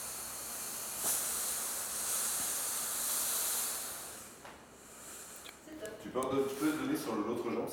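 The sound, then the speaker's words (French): A steam iron pressing a trouser leg lets out a steady, breathy hiss of steam at 5 bar for a few seconds, then it fades and a person starts talking. “Ouais, ça fait la vapeur, ok.”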